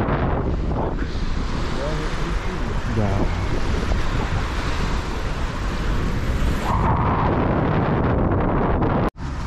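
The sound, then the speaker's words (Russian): Strong wind buffets the microphone at a beach, a steady roaring rumble with surf-like wash throughout, while a person speaks briefly in the foreground before a sudden cut near the end. “Я разворачиваюсь в другую сторону, сейчас будет ветер.”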